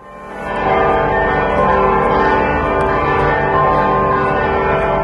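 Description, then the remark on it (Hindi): Church bells ring out loudly and continuously in St. Peter's Square, Vatican City, after white smoke signals the election of a new pope, their rich overlapping tones filling the open square with a sustained, reverberant peal and no voices heard. “Saint Peter square में घंटियां बज उठीं और वहां जमा हजारों लोगों की भीड़ एकाएक शांत हो गई।”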